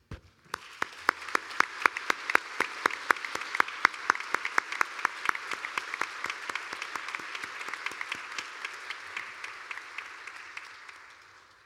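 An audience breaks into applause to thank a religious sister for her dedication and professed vows, many hands clapping together in a dense, sustained burst that swells, holds steady for several seconds, and gradually thins out as the clapping fades.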